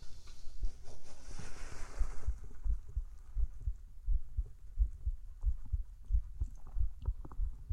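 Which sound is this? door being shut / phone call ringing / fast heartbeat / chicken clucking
fast heartbeat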